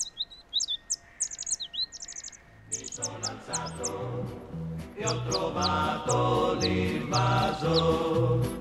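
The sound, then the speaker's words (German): Synthetic birdsong played from a small solar-powered loudspeaker box hanging in a tree: quick, bright chirps and tweets, alone at first, then joined by a steady rhythmic pattern of low electronic tones that grows fuller and louder. No one speaks. “Dort hängt eine kleine Anlage, ein kleiner Kasten und Lautsprecher mit Solaranlage und beschallt den Baum und seine Umgebung mit synthetischen Vogelstimmen.”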